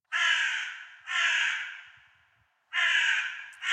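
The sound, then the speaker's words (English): A crow caws loudly, giving four harsh, drawn-out calls with uneven pauses between them, the last one cut short. No voices or other sounds accompany it. “And we've decided to make this part of our segment that's been long lost, the crow segment.”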